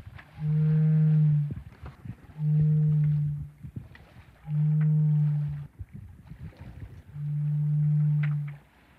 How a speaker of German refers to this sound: Meeresrauschen. Dazu dieser schwermütige Ton, das war kein depressiver Wal, sondern eine Heultonne, besser bekannt als Heulboje. Jetzt, wo ich sie gehört habe, finde ich den Namen etwas übertrieben.